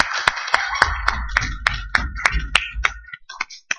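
An audience applauds together, a dense wash of many hands with a few sharp, steady claps standing out close by, thinning out over the last second.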